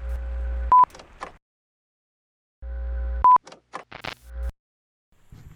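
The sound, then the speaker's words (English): A telephone rings out twice, each buzzing ring followed by a sharp click and brief clatter, with a long silent gap between them and no one answering. “I'm sorry that you can't make it today, and you aren't picking up the phone, so I'm just going to leave a message.”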